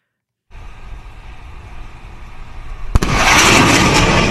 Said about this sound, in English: Oh, yeah, if you're listening to that, that fighter jet goes right across. Supposedly breaks the sound barrier